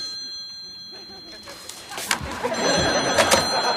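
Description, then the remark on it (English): A telephone bell rings with a steady, high metallic tone, then fades under a rising swell of crowd noise and indistinct voices. “Got this ringing in my ear now. It's the telephone.”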